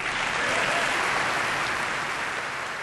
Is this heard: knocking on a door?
no